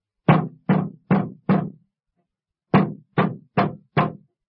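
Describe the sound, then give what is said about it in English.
Someone bangs on a coin-operated ticket vending machine: two bursts of four loud, hollow thumps in steady rhythm, separated by a short pause, with no voices. “You mustn't bang that machine.”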